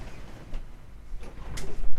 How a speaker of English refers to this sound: There's a cat banging at the door. Who's not going to go away until I let him in.